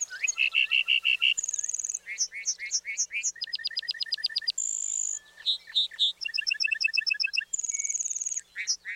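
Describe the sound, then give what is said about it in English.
A bunting, flying back to earth after rising through the open sky, sings a rapid, varied song of repeated trills, clear high whistles and buzzy phrases, loud, continuing without pause for several seconds with no voices. “Flying back to earth, the bunting belts out a complex series of trills, whistles, and buzzy phrases.”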